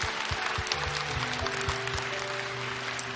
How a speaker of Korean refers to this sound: 우리 주님께 다시 한번 영광의 박수를 올려드리기를 원합니다.